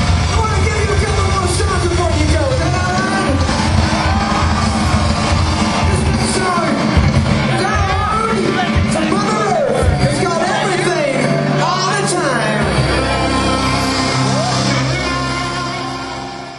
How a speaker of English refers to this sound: And as they come back on stage, you hear this crowd is going crazy, aren't they? It's ready for more. I'm telling you what, man. It really was. That was a loud crowd tonight, man. I mean, loud. There's a lot of people there.